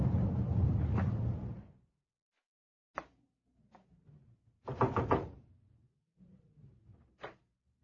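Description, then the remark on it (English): A heavy hatch door is shut with a loud rumbling slam, followed by a few sharp metallic knocks and thuds, including a brief cluster of rattling impacts, with no voices. “Hey, don't close that hatch on me.”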